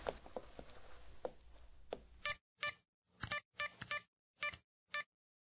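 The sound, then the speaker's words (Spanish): A mobile phone being dialed to call someone: soft taps on the handset, then six short, clear electronic tones in a fairly steady sequence, with no talking. “Voy a llamarlo al móvil.”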